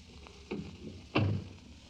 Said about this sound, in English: Please close that door.